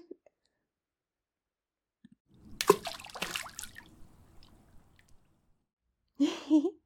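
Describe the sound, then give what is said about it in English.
Water splashes in a couple of sharp bursts as someone splashes another person, then settles into softer sloshing and dripping that fades out, followed by a short breathy vocal sound at the end. “Of course I'm splashing you, silly.”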